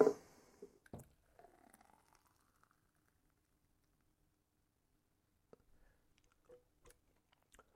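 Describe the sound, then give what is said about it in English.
A thick smoothie made with blueberries and beet juice powder glugs and plops as it's poured into a cup, starting with a soft clunk and fading into sparse, quiet drips and light taps. No one speaks. “Let me now pour it into a cup for you.”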